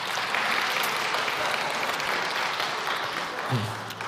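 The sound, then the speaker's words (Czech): A crowd claps steadily, a dense, even patter of many hands sustained throughout, with a brief low tone and a murmur of voices near the end, applauding to welcome a man invited up onto the stage. “Já myslím, že můžeme ho pozbudit jedním potleskem.”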